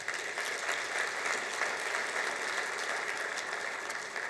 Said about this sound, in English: So please give those folks a round of applause.